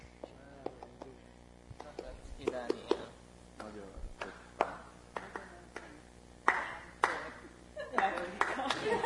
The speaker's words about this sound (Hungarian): Tapsoljuk el.